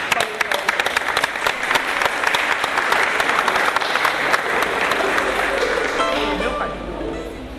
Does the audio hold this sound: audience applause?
yes